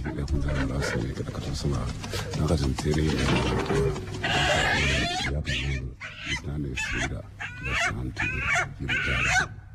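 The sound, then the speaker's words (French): A chicken being sacrificed live as an offering to the ancestors squawks and shrieks in repeated, high, frantic bursts while people talk over it, the cries loud and ragged throughout. “C'était un sacrifice de poulet en direct.”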